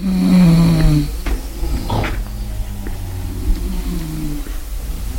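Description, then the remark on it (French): Low, droning snoring of female Chinese neighbours in the middle of the night, with a strong rumbling start, continuing in uneven breaths, joined by scattered faint creaks and thumps. “Les ronflements de mes voisines chinoises dansent le seuil de ma tolérance.”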